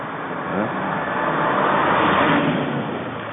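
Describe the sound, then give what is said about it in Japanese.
A bus approaches from behind, its engine and tyre rumble swelling steadily louder and closer over a few seconds, a dense continuous roar with no voices. “後ろからバスが来た、ちょっと危ない、ちょっと脇に避けるよ。”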